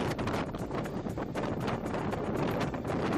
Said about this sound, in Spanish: Alertas por lluvia o viento, porque se está llegando a las rachas de 100 kilómetros por hora en algunas partes.